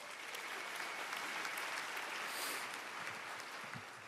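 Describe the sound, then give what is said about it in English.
An audience applauds photographer Glenn Nelson for his photos, clapping steadily for about four seconds, a dense, even wash of many hands clapping at once with no voices rising above it. “By the way, these pictures, these stunning photos are by Glenn Nelson, so let's hear it up for him.”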